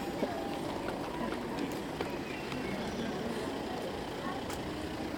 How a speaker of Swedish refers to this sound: Och nu kommer det en bil till. Oj. Han får mycket att göra.